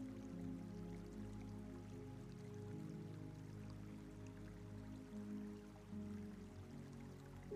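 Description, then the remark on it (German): Soft, continuous babbling of a small brook at the end of a pond, a gentle steady trickle with faint drips, quiet, with low humming tones underneath and no voices. “Du hörst ein leises Plätschern und entdeckst am Ende des Teiches einen kleinen Bach.”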